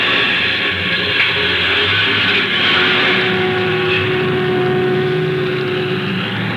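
A bus engine drones steadily and loudly, a continuous rumbling hum with a whining mechanical edge as the bus gets under way. No one speaks.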